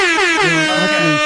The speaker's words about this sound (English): I would sound the alarm a little bit. Do you have an alarm for me? Where's my? I don't have a alarm, but I got air horns.